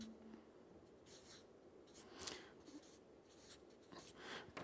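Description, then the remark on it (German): Soft scratching of a pen moving across paper in short bursts and longer strokes, with no talking, as someone draws a banknote and a few coins. “Ich male mal hier so einen Geldschein hin und ein paar Münzen.”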